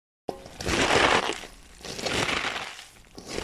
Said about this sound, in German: Wenn das Kraut gut gestampft ist und ordentlich Flüssigkeit austritt, übernehme ich wieder. Ich knete dann noch einmal kräftig mit den Händen durch. Es muss schon recht geräuschvoll schmatzen.